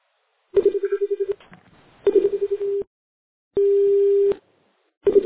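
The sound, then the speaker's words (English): A telephone rings over a phone line in repeated bursts, a warbling trill alternating with a steady tone, with short gaps between them. The sound is fairly loud and narrowband, with no talking. “I seem to hear a ringing noise.”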